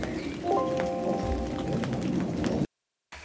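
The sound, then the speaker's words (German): Steady rain patters on a hard surface, a dense hiss with scattered sharper drops, a brief tonal squeak early on, then a sudden cut to silence before it resumes. “Ihr hört gerade den Regen und wir gehen mal nach drin und ihr hört uns gleich sofort weiter.”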